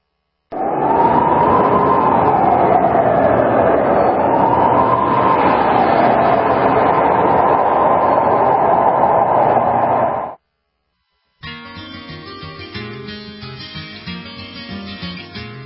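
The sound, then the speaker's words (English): A train rolls along the rails, a loud, steady rumble with a wavering high whine riding on top for about ten seconds, then it stops abruptly and music begins after a brief pause. “On a warm summer's eve, on a train bound for nowhere, I met up with a gambler.”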